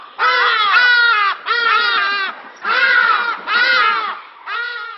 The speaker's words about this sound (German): Und mit dem Schrei des Hagedasch, Gesang kann man es ja wirklich nicht nennen, endet heute das Umweltmagazin Global.